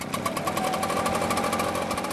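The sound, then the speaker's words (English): Leaf blowers, standard gardening equipment used by gardeners in California, run continuously with a loud, buzzing small-engine drone that rattles in rapid, steady pulses. The machines keep a constant level, and no one speaks. “The sound of leaf blowers, standard gardening equipment, but loathed by many homeowners, such as Ann Jones.”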